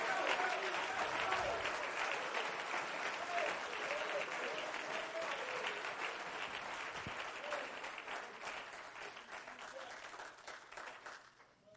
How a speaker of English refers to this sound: If you love him, clap your hands to him and bless his name.